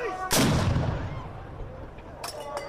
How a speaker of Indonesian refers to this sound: Suasana pun semakin meriah ketika dentuman meriam terdengar, menandai waktu berbuka puasa pada hari pertama Ramadan di Turki.